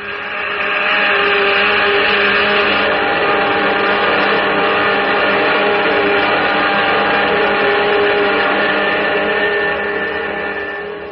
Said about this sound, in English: Those jet dynamos you see before you exist. Jet dynamos driven by the harnessed power of 1,000 suns. Listen, Earthman. Listen to them.